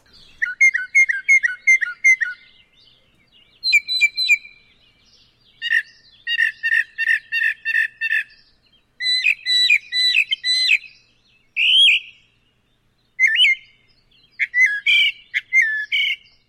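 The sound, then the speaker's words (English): A northern mockingbird sings alone in rapid bursts of varied, repeated phrases: chirps, trills, buzzy notes and sharp whistles, each motif repeated several times before switching to a new one, loud and bright. “Northern mockingbirds can be spotted throughout North America, from southeastern Canada to Mexico, and they are especially common in the southern states.”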